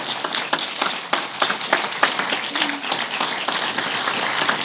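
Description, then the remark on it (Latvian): Steady applause from a concert audience after a sung performance, a dense wash of many hands clapping at a fairly even, lively level throughout, with a few sharper individual claps standing out and no speech over it. “Aplausus.”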